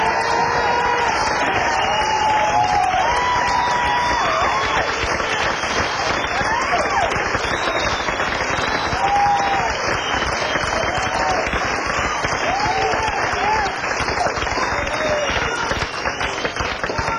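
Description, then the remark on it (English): Loud, sustained applause from a large audience for the band fills the whole stretch, dense clapping with scattered cheers and whoops rising above it, steady throughout. “Let's get together and give the band a big round of applause.”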